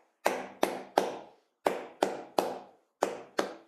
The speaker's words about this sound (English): So this is a fairly standard strumming pattern. So what I do is I just gently place my hands on the strings just till it makes a muted sound, and then I just try and copy the rhythm if it's there. If you're struggling with that, try clapping it.